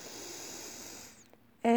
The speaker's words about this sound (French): Retour à la respiration spontanée. Encore une respiration contrôlée. Inspiration.